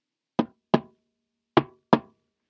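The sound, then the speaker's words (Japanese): Four sharp knocks on a desk, recorded with a laptop microphone, falling into two pairs with a brief pause between them, each hit quick and ringing slightly before dying away into silence. “机を叩いてみます。”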